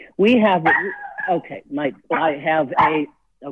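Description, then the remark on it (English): A 9-pound female dog barks and yaps at a weed control man outside the house, a rapid, uneven string of loud bursts with brief pauses between volleys and a final short yip. “I've got a 9-pound dog, and unfortunately, I have a weed control man outside. So she's got to protect the house.”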